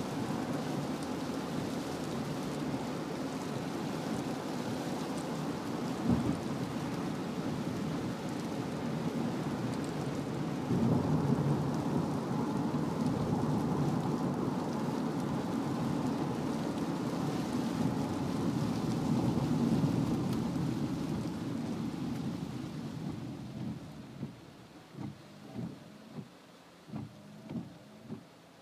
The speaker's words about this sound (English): And now it is raining very hard. That was very sudden.